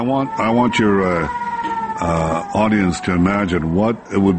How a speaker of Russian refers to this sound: Во время интервью, а оно транслировалось в прямом эфире, были слышны сирены воздушной тревоги.